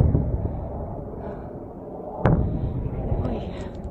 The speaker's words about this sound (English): In the far distance, huge explosions can be seen, points of light in an otherwise black sky. It is one of the very few records of an event that has shaken the Middle East and may yet transform it.